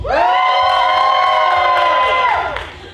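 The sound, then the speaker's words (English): A comedy show audience erupts in loud, sustained cheering to vote for the comedian they find funniest, with high-pitched whoops and screams blending together for a few seconds before tapering off slightly at the end. “Cheer for only the person that you think is the funniest.”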